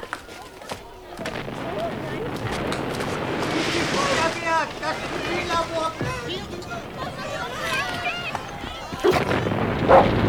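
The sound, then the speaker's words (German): A motor runs steadily with a rough, rumbling drone for the whole stretch, coming from the direction of a chemistry lab, loud, while indistinct voices murmur underneath. “Der Motor kommt aus der Richtung des Chemielabors.”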